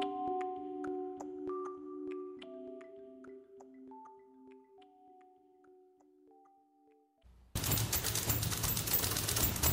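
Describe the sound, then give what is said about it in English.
An ensemble of typewriters clacks in rhythm beneath sustained musical tones, part of the soundtrack of the documentary film California Typewriter, then erupts into a loud, dense barrage of rapid-fire typing for the final seconds. “That's an orchestra of typewriters, part of the soundtrack of the new documentary film California Typewriter, named for a repair shop in Berkeley.”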